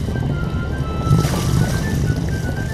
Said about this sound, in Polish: Silnik huknął, ruszył żwawo. Bosman skręcił sterem w prawo, potem w lewo, dziób do góry. Czarny dym się uniósł z rury.